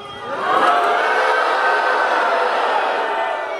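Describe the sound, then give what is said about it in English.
An overflow crowd at a rally in Salt Lake City, Utah, cheers loudly and steadily, a dense wash of many voices that swells in the first half-second and then holds at full strength without pause, with no single speaker standing out. “Overflow crowd in Salt Lake City, Utah.”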